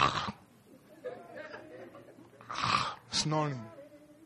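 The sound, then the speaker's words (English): A voice mimics people sleeping and snoring on their beds: a few rough, breathy snorts, with two louder rasping bursts near the end that carry a throaty voiced edge, over a faint background murmur. “While you and myself, we are there on our beds, sleeping and snoring.”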